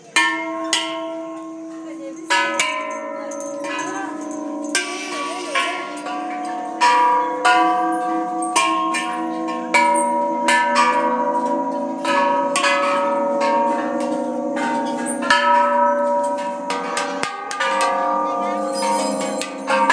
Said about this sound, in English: Hi guys, this is a temple in Thailand that we're in, and we've got lots of rows of bells here. I'm just going to start to shake some of these and make the noise.